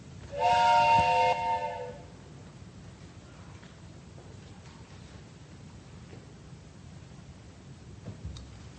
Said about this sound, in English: The Polar Express let out a loud blast from its whistle and sped away.